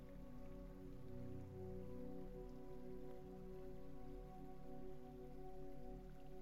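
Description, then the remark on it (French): Quiet running water makes a steady, even wash that barely changes over the seconds, with a low humming tone layered underneath. Nobody speaks. “Vous cherchez à vous approcher, suivre ce bruit, ce son de l'eau.”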